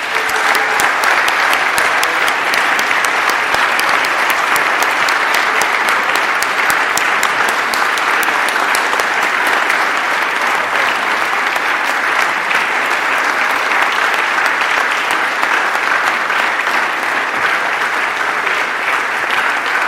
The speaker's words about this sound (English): Dr. Darius Yankovic has been voted the recipient of this year's Daniel A. Augsburger Excellence in Teaching Award. Please join me in congratulating him in a round of applause.